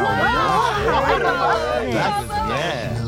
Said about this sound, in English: A fashion model has just burst out of the ship and taken the runway by storm, sporting fashions of opaque blues and oblique angles that are truly out of this world. The crowd is loving it.